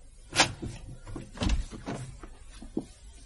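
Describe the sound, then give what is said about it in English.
A sharp metallic click, then a dull low thump and a few lighter rattling clicks, like a locked door being unlatched and pulled open, with no one speaking. “The door. It's locked. I don't have a key.”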